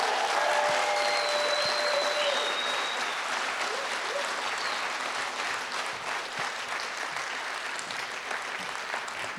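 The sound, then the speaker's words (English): A crowd applauds steadily for several seconds, dense clapping mixed with shouts and whistles of cheering for the children at the front, loud throughout and slowly easing off toward the end. “So would you just give a big cheer for these kids up front?”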